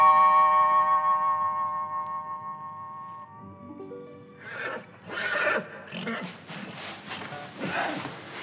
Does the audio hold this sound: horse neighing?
yes